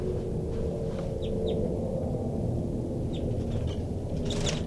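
A female bird gives a rapid alarm call series as she goes into tubes, short, sharp calls in scattered bursts, a few quick chirps at a time, recorded inside a cell of birds, over a loud, steady low rumble of machinery.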